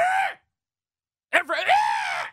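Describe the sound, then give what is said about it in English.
A man imitates pitcher Max Scherzer's strained scream when releasing the baseball: a short cry cut off, a brief pause, then a longer, louder grunting yell that rises and holds before ending abruptly. “I don't know another pitcher who screams every time he releases the baseball late in his outings, but he does that.”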